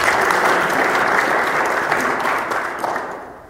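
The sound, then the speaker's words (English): A conference audience applauding steadily for the people who helped make the conference possible, a dense wash of clapping that holds strong before gradually thinning and fading toward the end. “So, a big round of applause to those people who helped us make this kind of conference possible.”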